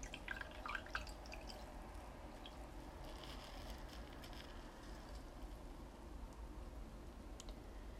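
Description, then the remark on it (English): Water drips in scattered, irregular drops over a steady low background hiss. The sound stays quiet throughout, with no voices. “The water feels nice on your body, but it might be too cold for your face.”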